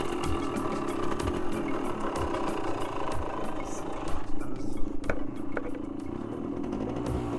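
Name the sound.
motorcycle engine running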